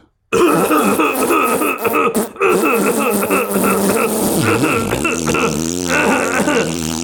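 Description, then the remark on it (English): A long, loud, buzzy fart, after a Huel double chocolate shake, rumbles on for several seconds without stopping, its pitch wobbling up and down, mixed with a raspy cough-like throat sound made to try to cover it. “Oh, I'm just going to let out a little fart.”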